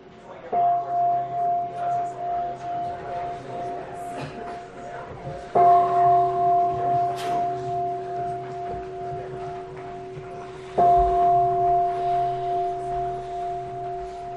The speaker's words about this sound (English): I love big bells.